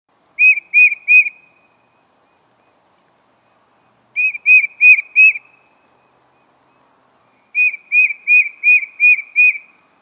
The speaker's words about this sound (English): That call you just heard was the song of the tufted titmouse. This lively and jaunty bird is one of the birds we see most often at our feeder in winter.